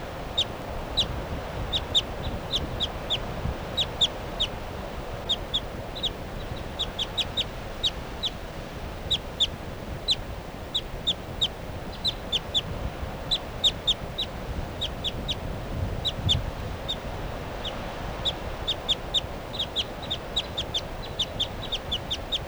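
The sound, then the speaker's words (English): A bird, number 387, calls from a tall tree above a captive bird, over and over with short, sharp, high-pitched notes in quick irregular bursts, above a steady low rumble of background noise. “This is a 387 from a tall tree above the captive.”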